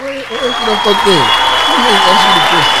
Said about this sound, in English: Thank you. I'll applaud myself.